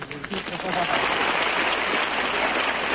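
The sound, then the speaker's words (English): The audience of the radio program The Big Show breaks into applause for Danny Thomas, a dense, steady wash of many hands clapping that quickly swells and holds loud to the end, with a brief voice heard at the very start. “Please, no applause, no applause.”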